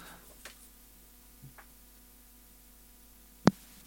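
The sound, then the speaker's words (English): Faint, steady hiss from a blank cassette tape playing, with a low electrical hum underneath, broken by a few soft clicks and one sharp mechanical clack near the end as the cassette ejects itself; no voices. “I always get excited as soon as you get a bit of tape hiss.”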